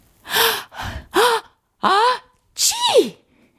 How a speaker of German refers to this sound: Der Schneemann niest so kräftig, dass ihm der Topf vom Kopf rutscht und die Schneeflocke mit Schwung weggeschleudert wird.